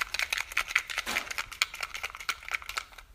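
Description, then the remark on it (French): Small slips of paper rattle and rustle inside a box as it is shaken for a draw of lots, a quick busy stream of dry crinkling taps with no voices. “Alors j'ai mis les petits papiers dans la boîte et je vais secouer.”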